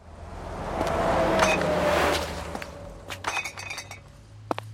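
A truck rumbles past in the evening with a deep, steady engine drone that swells and fades over a few seconds, while sharp glassy clinks ring out over it near the end.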